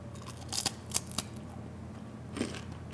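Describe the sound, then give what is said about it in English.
A light, crisp, delicate meringue-like cookie snaps apart in a few brief, dry crackles, clustered early and then one more after a pause, fairly quiet against a soft steady background hum. “That's what it sounds like if you break it apart.”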